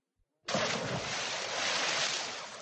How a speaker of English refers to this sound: Then Beowulf dived into the foul water.